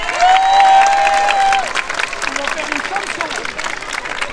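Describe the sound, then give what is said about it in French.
An audience claps steadily in a dense burst of applause to encourage conservatory music-class students about to sing two songs, with a sustained high whistle-like tone over the first second and a half and scattered voices rising through the clapping afterward. “Une salle d'applaudissements pour les encourager.”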